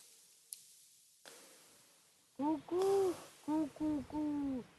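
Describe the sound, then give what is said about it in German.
A pigeon coos in a run of five low, throaty phrases, each rising and falling, after a couple of faint clicks in an otherwise quiet background. “Das ist eine Taube, so keine Eule.”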